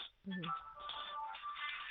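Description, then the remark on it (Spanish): A telephone rings with steady electronic tones over a narrow, muffled line, continuing for the whole stretch. A short voice-like burst comes just before the ringing settles in. “Hay un teléfono sonando.”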